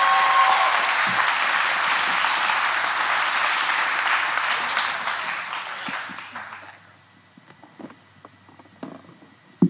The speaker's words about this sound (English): Give her a big clap.